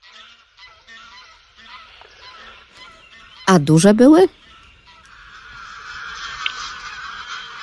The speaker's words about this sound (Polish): To znaczy, są dwa gatunki najbardziej takie u nas, no jak gdyby najpospodycze, czyli to jest gęś gęgawa i gęś zbożowa. I tutaj gęga gęgawa przede wszystkim. Gęgawa, tak.